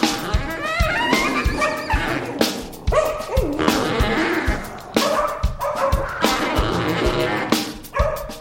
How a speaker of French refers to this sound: On se tape entre voisins à l'heure de l'apéro, en filant des coups de latte à son chien. Jap, jap, jap